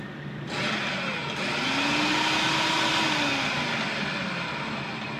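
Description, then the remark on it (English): A food processor chopping hops whirs steadily after a brief quiet start, its motor droning loudly with a faint rising pitch, while the hop pieces rattle and chop inside the bowl. “That was chopping up the hops.”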